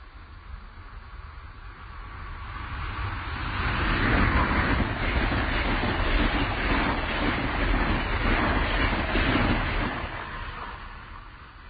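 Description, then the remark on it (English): A Metroliner express train rushes past at 115 miles an hour, heading south to north, a broad roaring rumble that swells to a loud peak, holds with rapid clattering, then trails off as it moves away. No one speaks. “But sit back and listen as the Metroliner speeds by at 115 miles an hour, south to north.”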